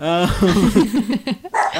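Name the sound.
dog barking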